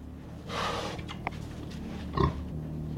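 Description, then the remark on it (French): Pigs grunting and snorting on a farm, a few short rough bursts standing out over a steady low rumble of farm background. “Là, il y a les cochons.”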